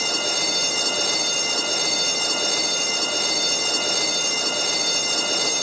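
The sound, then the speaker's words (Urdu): An air-conditioned train carrying Hajj pilgrims pulls into Arafat 3 station, heard as a steady, loud rush of rolling noise with a sustained high-pitched whine layered on top, unbroken throughout and with no voices. “یہ عرفات 3 کا اسٹیشن آ گیا, یہ وہ مبارک میدان جس پر ہر حاجی کی جانے کی تمنا.”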